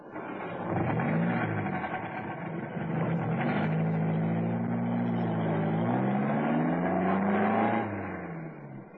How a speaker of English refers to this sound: Hey, now, don't look up, but here he comes, getting into that saloon outside his house. I had an idea that car was his. Now, come on, here we go.